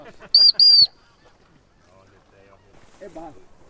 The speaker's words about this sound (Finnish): Merihanhia.